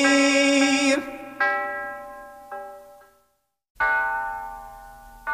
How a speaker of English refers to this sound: The sound of the golden bells meaning you can win with 1260 KYA.